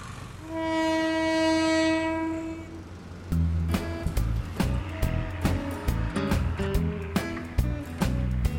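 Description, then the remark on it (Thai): A train horn sounds one long, steady blast, then a train rumbles past on a railway line cutting through a community near Talat Phlu, running roughly west, with loud, rhythmic clacking of wheels over the rail joints. No one speaks. “ทางรถไฟที่เหมือนผ่ากลางชุมชนแบบนี้จริงๆแล้วถูกวางอย่างจงใจ สังเกตนะครับรถไฟเส้นนี้มันตัดไปทางไหน”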